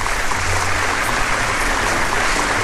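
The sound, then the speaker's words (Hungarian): Steady, dense clapping from a group fills the whole stretch, a continuous crackling wash of many hands at an even, fairly loud level with no voices. “Hagyjátok abba a tapsolást.”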